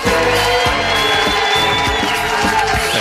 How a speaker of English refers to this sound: All right, one more time. This is your cue to clap, everybody. 3, 2, 1.